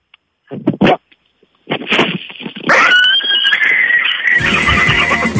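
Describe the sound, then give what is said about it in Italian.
A man imitates a horse: a few short, breathy snorts, then a loud, drawn-out whinny that quavers and rises before breaking into a harsh, rough finish. “Secondo me c'è un cavallo veramente.”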